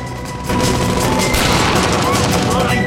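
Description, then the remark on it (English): After a brief quiet start, a dense burst of loud gunshots breaks out in a shootout, rapid overlapping shots from pistols and a large cannon-like revolver firing back and forth, continuing without pause to the end. “Jean strafes to his right, firing his cannon-like revolver, dust kicking up at his feet.”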